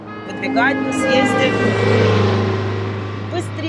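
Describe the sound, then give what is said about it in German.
Loud car horns blare in long, sustained honks that overlap for several seconds, with engine noise and voices mixed underneath. “Dann würde ich dieses laute Hupen sofort unter Strafe stellen.”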